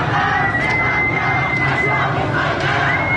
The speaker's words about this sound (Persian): علی‌رغم این سرکوب شدید، خیابان‌ها شلوغ هستند و صدای شعار قطع نمی‌شود.